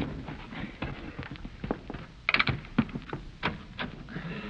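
banging on a door

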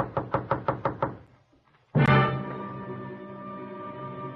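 knocking on a door

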